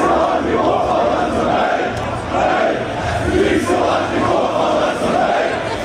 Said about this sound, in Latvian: Visu maču vairāk nekā 2000 balsīgais latviešu koris bija dzirdams un emocionāli atbalstīja Latvijas izlasi.